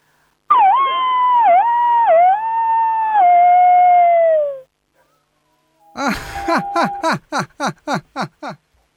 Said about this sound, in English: When they're happy, they do their morning howl and their evening howl after they eat. And my youngest dog